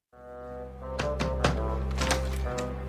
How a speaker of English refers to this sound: And so he's knocking on your door to see if you can help. Let's listen.